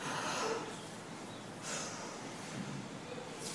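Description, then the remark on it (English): Forceful yogic breathing: noisy breaths pushed in and out through the nose in a few strong hissing bursts about a second and a half apart, with no talking. “This way of breathing is artificial, isn't it?”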